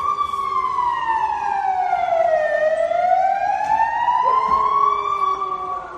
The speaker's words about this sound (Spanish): Muchos son los que han querido dar el pésame, incluyendo, por ejemplo, a los Mossos de Escuadra, que acudían a un cuartel de Barcelona a hacer sonar sus sirenas en señal de recuerdo y de respeto.